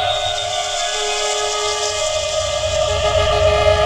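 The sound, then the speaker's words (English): A steam train's massive quill whistle blows one long, steady, chord-like wail of several blended tones, held loud for the whole stretch over a low rumbling undertone. “massive whistle quill.”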